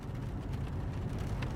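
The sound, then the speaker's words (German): A steady, deep rumble of Niagara Falls, heard on arriving in the Niagara Region, holding an even level throughout with a soft hiss above the low roar and no voices. “Zuerst nur als leises Grollen, ein tiefer, vibrierender Ton, der aus dem Boden zu kommen scheint.”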